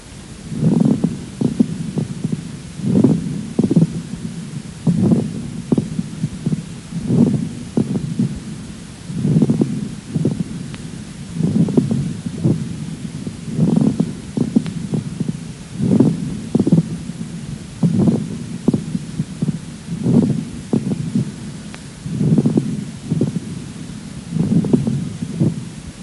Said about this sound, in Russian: Прослушайте влажные мелкопузырчатые хрипы у больной с острой бронхопневмонией. Основной дыхательный шум представлен жестким дыханием.